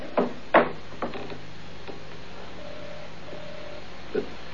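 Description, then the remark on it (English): A stuck door being forced, with a few heavy wooden thumps and rattles at uneven intervals, loudest near the start, then a faint creaking tone and one last knock. No one speaks. “What's the matter with that blasted door?”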